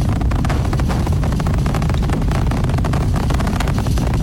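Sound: rocket engines roaring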